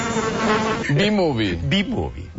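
A continuous buzzing drone that rises and dips in pitch for a couple of seconds, like a voice imitating bees humming, with no other sounds around it.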